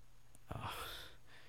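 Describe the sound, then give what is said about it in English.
A heavy, breathy pant, one main rush of air lasting about half a second, fairly quiet, with no talking around it. “Now you're just panting like crazy.”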